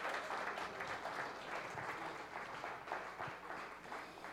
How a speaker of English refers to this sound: It's time for a new beginning. Right? It's time for, yeah, you can clap. This is good news.